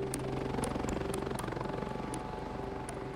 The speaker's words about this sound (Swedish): Där väntar en helikopter.